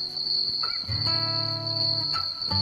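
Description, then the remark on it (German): A loud, steady high-pitched cricket chirping drones throughout, with lower tonal sounds swelling in the background. “Von laut zirpenden Grillen”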